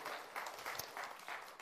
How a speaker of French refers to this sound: Vous pouvez applaudir le Seigneur.